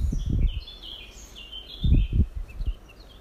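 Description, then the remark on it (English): Birds sing and chirp softly, with scattered high calls running throughout, while a few low rumbling thumps, like wind buffeting, break in now and then. “Start by bringing your attention to the birds singing.”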